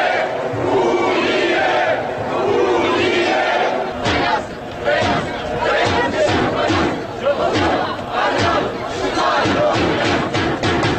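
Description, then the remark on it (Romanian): A large crowd at a unionist march in central Chișinău, walking from the Opera and Ballet Theatre square to the Railway Station square, chants slogans such as "Basarabia e România" and "Unirea" in loud, rhythmic unison, voices rising and falling in repeated bursts over a steady roar of about 6,000 people. “Participanții au mărșăluit din scoarul Teatrului de Operă și Balet până la scoarul Gării Feroviare, scandând lozinci precum Basarabia e România și Unirea.”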